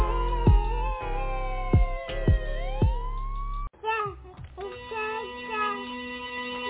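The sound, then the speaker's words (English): A police siren wails with tones sliding up and down, mixed over heavy thumping low beats, then gives way to steadier held tones for the last few seconds. “Ambulance, cop sirens, somewhere around.”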